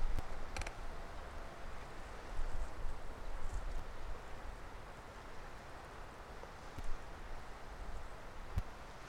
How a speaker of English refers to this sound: Splashing over the pier.